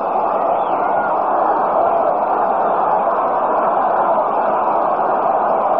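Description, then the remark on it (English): A large baseball stadium crowd murmurs and stirs with excitement as the bottom half of the fourth inning starts, a steady, dense roar of many voices, loud and unbroken throughout, with no single voice standing out. “Crowd stirring up some excitement here as we start the bottom half of the fourth.”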